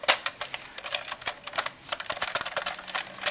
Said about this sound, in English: typing something now